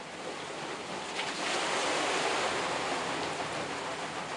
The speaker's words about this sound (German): Schon rauscht das Wasser in eine hölzerne Rinne. Bis wir an der Mühle ankommen, ist auch das Wasser da und trifft auf das Mühlrad, das brav zu rollen beginnt.